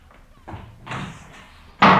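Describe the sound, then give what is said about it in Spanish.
A door slams shut with a single loud, sharp bang near the end, as a girl leaves in anger, after a few softer shuffling bumps and movement sounds. “Y salió dando un portazo.”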